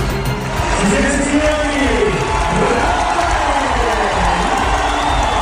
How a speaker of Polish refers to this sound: No tak, trybuny w Rzymie wiwatowały Rafę Nadala.